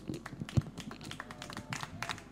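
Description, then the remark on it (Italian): An audience applauds steadily on a radio broadcast, a dense patter of many hands clapping at once with no voices over it, fairly quiet overall. “Vi lascio godere l'applauso, anche con un po' di entusiasmo, chiaramente.”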